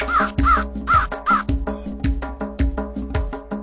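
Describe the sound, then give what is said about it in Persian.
Five crows caw over and over in a quick, rhythmic series of harsh, raspy calls, loud and steady throughout, with no voices present. “پنج تا کلاغ زیبا خوشحال و شاد و خندون قار و قار قار میخونن.”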